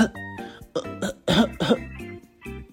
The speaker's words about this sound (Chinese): 那为什么会感冒呢？喉咙肿起来，一直在咳嗽，我都没办法说话了。